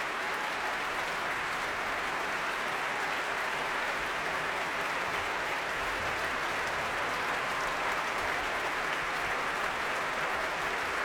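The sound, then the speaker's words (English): Sustained applause from a large concert hall audience and members of the BBC Philharmonic after a performance of Mahler's Third Symphony, a dense steady wash of clapping hands filling the whole stretch without pause, moderately loud and even throughout. “on his feet now, applauding fellow members of this orchestra.”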